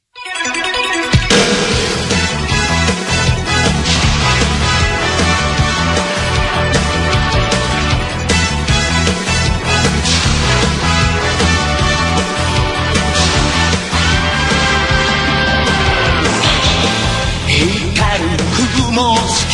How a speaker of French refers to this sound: je voulais faire un petit hommage quand même avec à Akira Toriyama, avec le générique de Dragon Ball Z